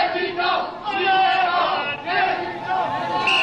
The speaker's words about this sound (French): Dès 20h, dès l'appel de Lionel Jospin, une foule immense s'était rassemblée sur la place de la Bastille. Mitterrand, président, Mitterrand, président, Mitterrand.